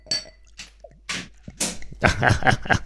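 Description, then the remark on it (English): Oktoberfest beer glugs into a glass from Destiny in a few short splashy bursts, followed by a denser fizzing pour while a voice murmurs faintly underneath. “is pouring some beer from Oktoberfest into a glass from Destiny.”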